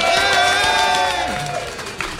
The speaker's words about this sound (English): Yay! Wow. It sounds like a crowd of 3,400 people, the same number that were at the Dignation party yesterday.